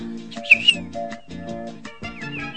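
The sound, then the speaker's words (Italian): A person whistles an imitation of birdsong from bird-sound meditation music: a few quick, high chirping notes mixed with hummed, voiced tones, moderately loud, lasting a couple of seconds with no talking. “l'altro giorno per meditare ho messo la musica degli uccelli.”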